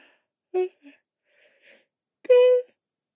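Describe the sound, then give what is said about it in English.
Someone yawns: a few short breathy, voiced sounds, then a louder, drawn-out moaning note that holds briefly and stops. No words are spoken. “Go make the tea, it'll help with the yawning.”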